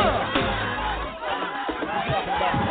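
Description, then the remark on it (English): A large crowd cheers and shouts steadily, a dense roar of voices with scattered whoops and clapping rising through it, loud and continuous throughout. “Put those hands together all over this place.”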